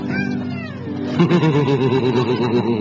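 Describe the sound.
A young girl's voice imitates a cat when asked what cats do: a rising and falling meow first, then a wavering, pulsing yowl that carries on steadily, fairly loud, with no other talk.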